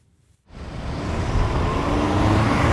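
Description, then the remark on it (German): After a brief near-silent moment, steady road traffic rises and fills the scene: a continuous rumble of car and heavy vehicle engines at a busy street intersection in Berlin, Germany, loud, with no talking. “Ausgangspunkt seiner Recherche ist eine Kreuzung in Berlin, an der ein 8-Jähriger von einem Lkw überrollt und getötet wurde.”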